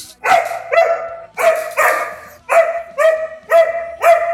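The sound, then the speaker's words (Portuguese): A dog barks loudly and steadily, about eight sharp barks in quick succession, some in pairs, with no voices. “Tá, late, cachorro.”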